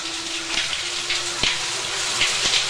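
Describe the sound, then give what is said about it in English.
Steady shower water pours and hisses continuously as a man lets it run onto his chest, a broad rushing spray with a few louder splashes and drips, fairly loud, with no voices. “In the shower, Tom smooths back his wet hair and lets water run onto his chest.”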